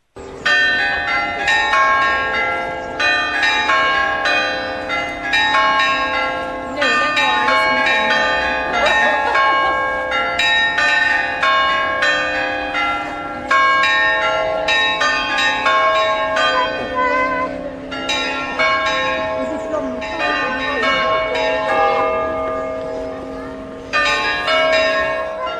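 Traditional church bells of Toulouse peal continuously in a street, with loud, rich metallic strikes repeating in a steady rhythmic pattern and ringing tones overlapping into a sustained wash for the whole stretch.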